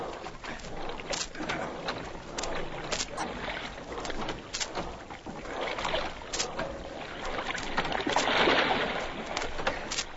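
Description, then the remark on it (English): Oars dip and pull through water in a steady rhythm as a dinghy is rowed out to a man in the water, with repeated splashy strokes and lapping water, building slightly louder toward the end; no one speaks. “I'll take an oar.”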